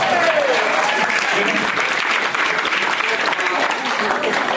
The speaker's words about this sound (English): At least clap or something, right?